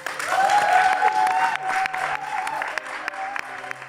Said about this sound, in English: I'd love you to give everybody a huge round of applause. We're here at the Albany with Smash Fest, which is a wonderful festival. Check it out. And also applause for our incredible panel.